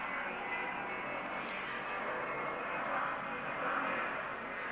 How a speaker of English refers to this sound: First of all, I'm going to wait for that airplane to go over.